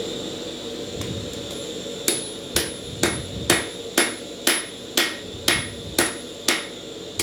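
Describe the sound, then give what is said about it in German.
A blacksmith's hammer strikes metal about a dozen times in a steady, even rhythm, each blow ringing bright and loud over a constant roaring hiss of a gas-fired forge burning at 950 degrees, in a smithy workshop. “Die Tür steht offen, die gasbetriebene Esse faucht mit 950 Grad heißem Atem.”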